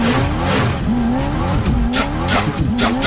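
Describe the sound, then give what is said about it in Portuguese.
A loud sports car engine revs and accelerates, its pitch rising and falling, with bursts of harsh tire squeal near the end. Nobody speaks. “Ora eu tô pagando de Camaro acelerando.”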